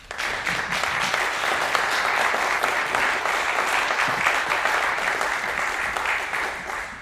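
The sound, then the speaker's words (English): Steady audience applause welcoming a guest speaker fills the whole stretch, a dense wash of many hands clapping at an even, sustained level before tapering slightly at the end. “We didn't have to prompt them for applause.”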